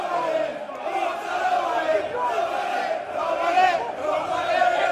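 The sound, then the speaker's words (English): A chaotic, angry crowd at an airport attacks football referee Anthony Taylor and his family on their way home from the European final that Roma lost, shouting and jeering continuously, many overlapping voices yelling at once in a loud, sustained roar with no pauses. “And this is the sound of them being attacked in the airport as they made their way home from that match.”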